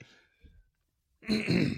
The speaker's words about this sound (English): He like coughs into it a couple times.